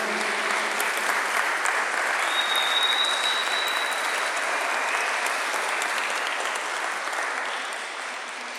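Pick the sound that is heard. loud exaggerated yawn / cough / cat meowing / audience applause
audience applause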